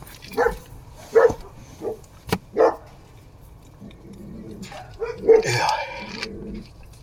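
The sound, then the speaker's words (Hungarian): A small dog guarding the house barks in short, sharp yaps, four spaced out in the first few seconds, then a louder, more drawn-out burst of barking toward the end. “Kis kutya milyen okosan őrzi a házat.”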